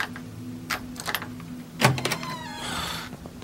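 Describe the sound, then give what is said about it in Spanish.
A door is unlatched and pulled open: a few soft clicks and a sharper knock-like thump, then a drawn-out creaking squeal as it swings, with a low hum underneath. Someone opens the door early in the morning to a visitor demanding to be let in. “abre la puta puerta ya.”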